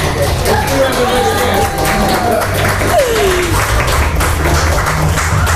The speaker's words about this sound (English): But there was applause.